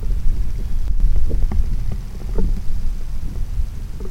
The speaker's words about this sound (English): So just listen for the vent. Okay, so if anyone's listening for arguing worms, it's probably futile, so don't do that. Okay, so let's listen to a hydrothermal vent.